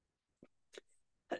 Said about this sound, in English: I'm so sorry. I keep coughing.